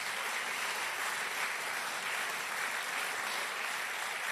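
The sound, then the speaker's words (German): A crowd applauds for Jesus with steady, dense clapping that keeps an even level throughout, a continuous wash of many hands with no voices standing out. “Oh, ein Applaus für Jesus.”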